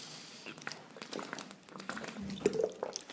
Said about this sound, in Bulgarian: Да пина малко вода, защото се разплача.